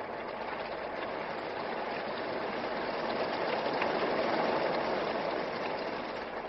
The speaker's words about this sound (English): We'll get drenched at Tinker this morning. Just look at that rain